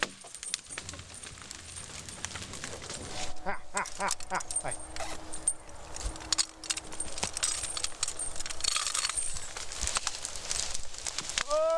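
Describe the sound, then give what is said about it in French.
A horse munches on leaves during a break, with steady crunching and rustling bites, while light metallic jingling, like harness or tack, rattles now and then. “Là, c'est la pause casse-dalle pour le cheval.”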